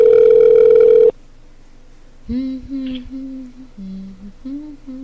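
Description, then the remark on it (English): A telephone ringback tone: one loud, steady electronic burst lasting about a second, followed by a pause and then a quieter voice coming through the line. “Oh, this one's actually ringing.”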